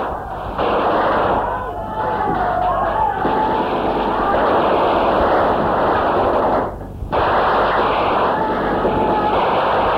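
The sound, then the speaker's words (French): Dense, relentless gunfire and heavy booms roar without pause, a wavering wail threading through early on, before the barrage cuts out for a split second and resumes just as loud. “On entend toujours les fusillades.”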